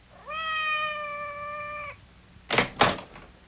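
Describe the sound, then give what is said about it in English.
A cat, Madame's cat Francois, lets out a single long, drawn-out meow outside the door that holds steady for over a second, followed by two quick dull thumps like knocks on a door. “Outside the door. It sounded like Madame's cat, Francois.”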